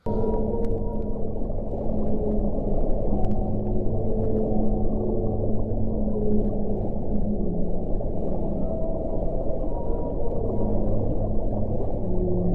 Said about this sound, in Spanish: Si os parece, tenemos un pequeño fragmento de vuestro teatro, de vuestra performance bajo el agua, así que vamos a escuchar un poquito la pieza.